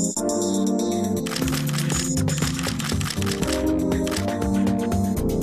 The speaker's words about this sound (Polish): Wybrzmiało już muzyczne logo Migawki.